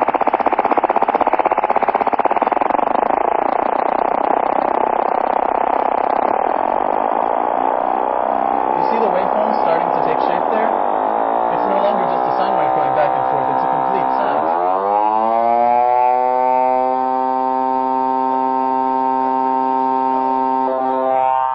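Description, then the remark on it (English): A synthesized FM tone whose modulator oscillation is slowed down and then repeatedly sped up, with wobbling, swirling sidebands, morphing from a smeared buzzy texture into a bright, steady harmonic drone. Continuous and fairly loud, no voices. “Now we're slowing it down to a very simple oscillation. Now I'm going to speed it up.”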